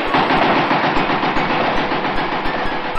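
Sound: automatic gunfire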